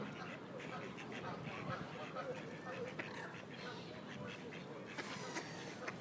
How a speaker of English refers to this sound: All these birds are very noisy today, aren't they?